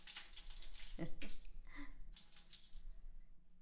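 Water pours and splashes steadily, a broad hissing rush that shifts as the stream moves, rinsing over a person's whole body, with brief louder splashes partway through.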